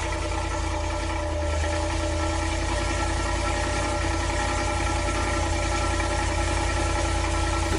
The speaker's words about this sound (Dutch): En die stuurde ons vervolgens een geluidsfragmentje. Mm-hmm. Van zijn startende S80 V8.